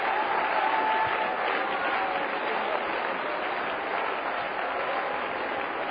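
A church audience claps for the Lord together in a steady, dense wash of applause that stays loud and even throughout, with a faint murmur of voices mixed underneath.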